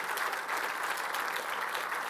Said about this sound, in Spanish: Denle un fuerte aplauso, hermano Cristo.